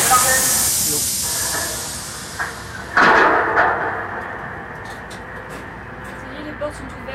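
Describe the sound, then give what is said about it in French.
A long pneumatic hiss fades as the doors of a lock open, followed by a sudden clunk and a rumbling rush. Faint voices and small knocks follow. “Ça y est, les portes sont ouvertes, ouais, ouais.”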